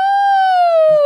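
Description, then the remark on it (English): A voice imitates a mother's exaggerated sneeze, stretching it into one loud, high-pitched, slowly falling wail that lasts about a second, ending with a short breathy burst. “She sneezes like this. Achoo!”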